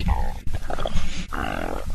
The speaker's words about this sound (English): No, there are 3 distinct burps, and there's no question that's what they are. Those aren't burps. They're when you open your mouth, it's a deep, cavernous gurgle of an air pocket.